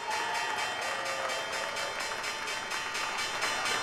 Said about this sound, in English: Let me give everybody the closing bell on Wall Street.